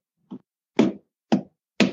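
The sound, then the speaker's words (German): Four hollow wooden knocks at a steady beat mimic a heartbeat; the first is softer, the next three are sharper and louder. No one speaks. “Ja, das klingt ja so hölzern.”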